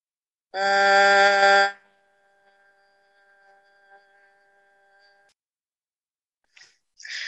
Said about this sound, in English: In the next step of the soul sync practice, you're again going to do 8 cycles of breath. But you inhale normally. When you exhale, you make a humming noise that will vibrate your head.